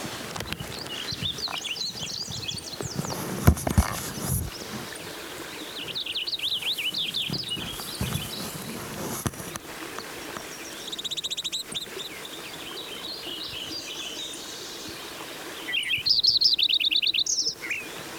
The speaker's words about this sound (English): Lincoln sparrow. Number one song.